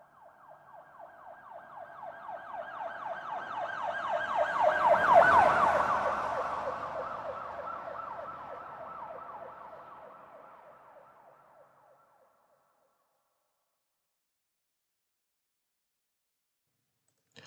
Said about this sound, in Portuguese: Pelo sim, pelo não, desliguei o telefone e abri uma janela para farejar sirenes longínquas.